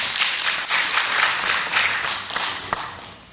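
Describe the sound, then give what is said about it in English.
An audience breaks into steady applause, a dense crackle of many hands clapping at once that holds at an even loudness for a few seconds, with no voices over it. “I don't know when I'm going to be applauded by this audience.”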